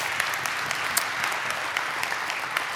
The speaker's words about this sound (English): You are blessed Sunday after Sunday to have the ministry and the music ministry leadership that you have. So would you lift up a hand clap of praise to the Lord for them? Yeah.